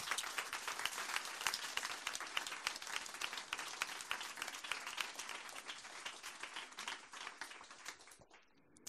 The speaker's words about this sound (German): Geben wir ihr einen grossen Applaus.